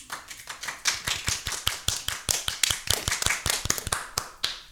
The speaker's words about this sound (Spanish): Por favor, démosle un aplauso.